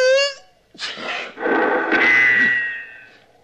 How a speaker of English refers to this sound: Serves you right for sneezing.